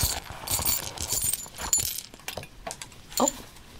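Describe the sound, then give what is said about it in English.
Small metallic clinks and jingles, like coins and gems shaken in a pouch, scattered in quick irregular bursts, with no voices. “A few coins and gems.”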